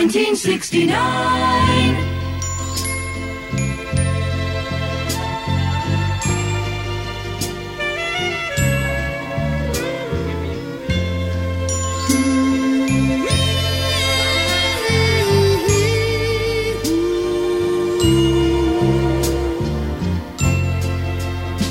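A Motown soul song recording plays steadily at full volume, with a warm bass line, a soft regular beat and bright chiming notes on top, and no one talks over it.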